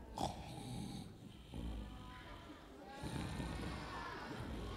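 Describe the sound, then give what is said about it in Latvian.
A sleeping man snores with rough, rasping snores that repeat in slow cycles of about one and a half seconds each, with a throaty, snorting rumble, moderately loud. “Klausieties, klusu, klusu, kā viņš krāc.”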